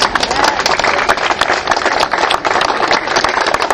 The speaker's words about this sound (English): I'd like you to give them a clap, please.